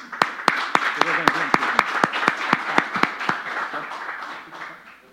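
An audience at a certificate ceremony in Araguari breaks into applause for a celebrated local football player who is present, with a few sharp, distinct claps standing out over a dense wash of clapping that gradually thins and fades after a few seconds.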